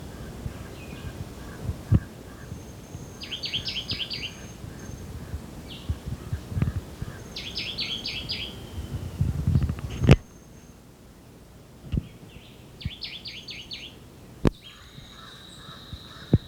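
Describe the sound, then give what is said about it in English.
A crow jabbers in the background with rough, chattering calls, while a Jamaican white-eyed (woodbelly), a small songbird, repeats high, buzzy phrases every few seconds over a low rumbling outdoor wash; nobody speaks. “Jabbering crow in the background.”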